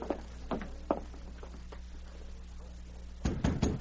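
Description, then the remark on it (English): Knocking on a wooden cabin door at dawn: a few spaced raps, then a quicker cluster of knocks near the end, over a low steady hum, with no talking. “It was dawn of the following day when Glenn White got up to answer a knock on the cabin door.”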